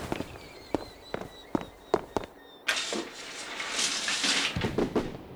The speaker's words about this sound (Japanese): 花火！ 隣町の花火大会だな。今日はすごい人出のはずだ。